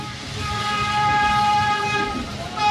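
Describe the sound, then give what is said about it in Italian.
A historic train, revived for a commemorative journey, rolls along the rails with a steady, loud rumble, a high sustained squeal of metal ringing over it throughout the few seconds. “non avendo avuto la possibilità di fare il viaggio su questo treno ai tempi eroici, ai tempi in cui questo treno esisteva realmente, e non mi sono lasciato sfuggire l'occasione di farlo adesso che questo treno viene rievocato.”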